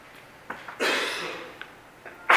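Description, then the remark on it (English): A single sneeze bursts out as a loud, breathy hiss that trails off over about half a second, with brief soft sniffs and rustles before and after it. No one speaks. “Bless you.”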